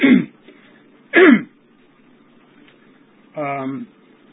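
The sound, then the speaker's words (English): Two sharp coughs about a second apart from a person who has been smoking too much, followed after a pause by a rougher, voiced throat clearing, with a faint low hum underneath. “Sorry about the coughing. I've been smoking a bit too much.”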